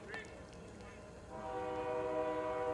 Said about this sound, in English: It's going to be a heavy night on the old train track here tonight for some reason.